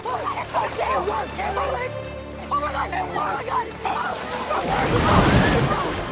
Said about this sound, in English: The alien lunges forward. The pool cover gives way. The alien sinks into the water. It flails and the cover engulfs it.